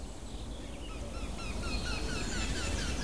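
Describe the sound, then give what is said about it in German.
A blackbird sings faintly in the distance, its phrases woven into a busy chorus of chirping songbirds over a steady outdoor background hiss. “Bisschen weiter weg die Amsel.”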